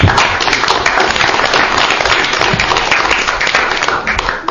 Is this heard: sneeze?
no